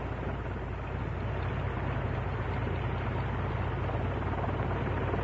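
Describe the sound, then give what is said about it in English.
A vintage Curtiss OX5 V8 aircraft engine of about 85 to 90 horsepower idles steadily, a loud, continuous low rumble with a dense mechanical roar, unbroken, with no voices over it. “To her idling down now. V8. The OX5.”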